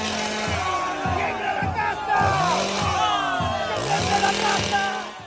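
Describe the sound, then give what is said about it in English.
A chainsaw engine revs in repeated surging bursts, roughly twice a second, over the loud roar and shouting of a large crowd at a political campaign rally, where the candidate appeared clutching the chainsaw. “So the symbol of Milei's insurgent campaign was the chainsaw. He would appear at the rallies clutching this chainsaw.”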